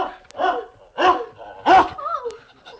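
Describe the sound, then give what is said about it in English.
A dog barks three times in loud, evenly spaced bursts, followed by a brief whiny yelp as the barking trails off. “Ferocious dog.”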